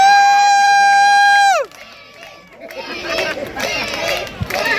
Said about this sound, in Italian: Attention, en direct de la place Saint-Nicolas et de la fête du sport.